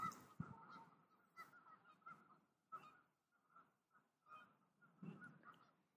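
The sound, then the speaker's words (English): Repeated nasal honking calls from a group of geese, with some duck-like quacks mixed in, coming in irregular bursts across the Delaware River at Shawnee on a foggy December day of about 60 degrees. “There are ducks and geese on the river, although I can't see them because a terrific fog has rolled in.”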